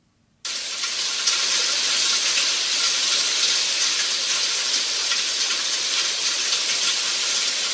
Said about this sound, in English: What'd you hear that time? Rain. Rain.